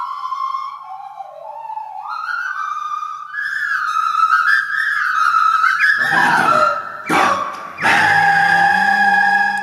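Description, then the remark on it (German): A nose flute, blown through the nose with the mouth acting as resonator to shape pitch and tone, plays a pure, whistling melody that slides and wavers in pitch, fairly loud, then turns breathy with a few rough, noisy bursts near the end. “Mit der Nase wird geblasen, die Flöte ersetzt die Lippen, verwirbelt den Luftstrom und bringt ihn zum Pfeifen.”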